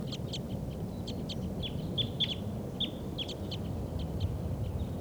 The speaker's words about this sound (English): And I think there may be wild birds coming in. That's why the birds are so excited. Sounds like a type 5 bird is around here somewhere.